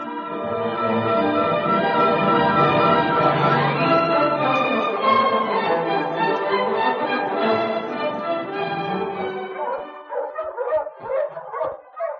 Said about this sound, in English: Sergeant, it's nice of you to give me a ride to school. Do you hear the bell? The one we found.